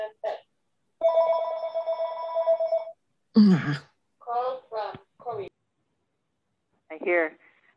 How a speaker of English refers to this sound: I hear phones.